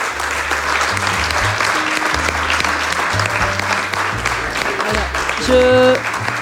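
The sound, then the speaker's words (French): A roomful of people at a conference at the ULB claps steadily and loudly for several seconds for the evening's four speakers, the dense patter of many hands blending into a continuous wash of applause that swells slightly near the end. “Donc, je vous demande d'applaudir quand même nos quatre intervenants de la soirée.”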